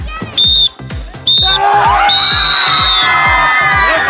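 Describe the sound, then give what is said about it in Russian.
A loud crowd of children cheers and shouts continuously for team Energetik in the final seconds of a children's summer camp sports final in Tyumen Oblast, over steady rhythmic thumping, with sharp high whistle blasts cutting through several times. “Ребята, поддерживаем! Энергетик! Энергетик!”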